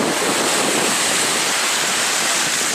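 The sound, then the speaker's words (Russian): A steady, loud wash of surf roars at a beach in California, a continuous hiss of breaking ocean waves with some wind buffeting the microphone and no voices. “Тут в волнах такие люди плывут, голенькие совершенно, без этих костюмчиков.”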